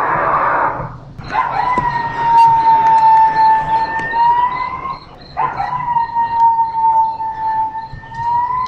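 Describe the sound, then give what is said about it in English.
A coyote howls two long, sustained notes, each held for several seconds with a slight pitch rise, after a brief rough yelp at the start; loud, with no talking. A recording played by an interactive display of regional wildlife in a park. “Let's go in now and listen to some of the interactive displays where you can hear wildlife of the region, such as coyotes, mountain lions, owls, hawks, eagles, and much more.”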